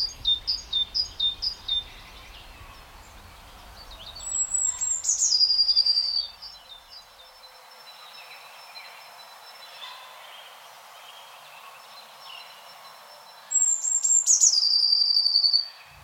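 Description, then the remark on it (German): A great tit and a blue tit call back and forth outdoors: a run of rapid high chips at first, then two bursts of thin descending trills, over a faint insect hum with no talking. “Und Blaumeisen antwortet, ich bin nicht zimperlich mit dir. Ja, also es sind beides Meisen, genau, darum auch relativ nah verwandt.”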